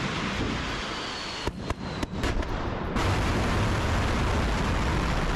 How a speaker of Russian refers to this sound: В учениях участвовали самолеты, способные нести подобные снаряды, корабли и ракеты наземного базирования. В частности, Минобороны показала запуск ракеты «Ярс».